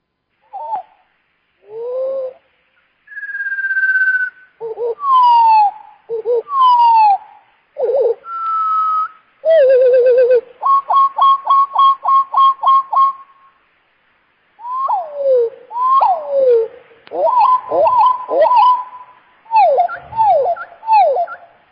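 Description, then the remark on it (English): Birdsong played back at slow speed: drawn-out, low whistles and swooping notes, a steady run of repeated pulses midway, then more slurred phrases after a short pause, clear with no talking. “Again, at normal speed, this is the same bird.”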